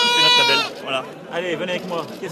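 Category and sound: animal, sheep bleating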